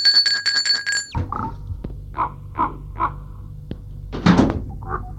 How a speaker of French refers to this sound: En fin d'après-midi, on a sonné à la porte du portail.